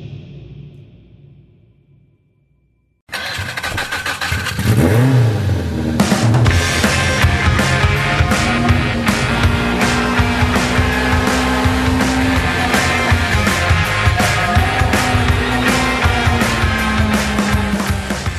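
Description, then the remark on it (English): A car engine cranks and catches after a short quiet start, then revs and settles into a loud, steady drone as the vehicle drives off, with rising and falling engine pitch throughout. “We're in a car. We're all rolling toward the Acura party.”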